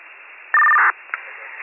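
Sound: telephone number being dialed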